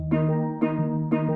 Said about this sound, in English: It's music. It's a musical instrument. Yes, that's right. It is a musical instrument. It's a type of drum called a steel drum.